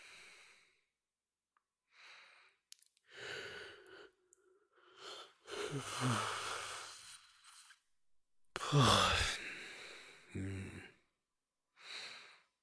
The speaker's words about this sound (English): Yawning.